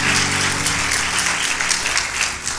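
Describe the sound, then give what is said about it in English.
A large church audience claps together in praise to God in sustained, dense applause, loud and steady for a couple of seconds, with a faint tonal hum underneath at the start. “Let's give God one more hand clap of praise for his word.”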